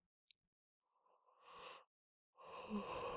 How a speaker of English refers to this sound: Oh, don't yawn, you'll set me off.